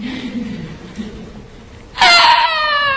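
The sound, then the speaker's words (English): A child fusses and whimpers softly for a couple of seconds, then bursts into a loud, shrill, sustained scream that holds steady to the end. “And you try to take that piece of broken glass from the child. What happens? They'll scream.”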